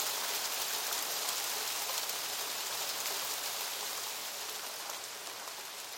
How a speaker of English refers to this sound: we were just sat there getting cold, looking at the rain and listening to the relentless drum of rain on plastic